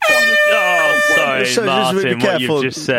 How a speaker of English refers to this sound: I'm going to run out of air in this profanity buzzer if you're not careful.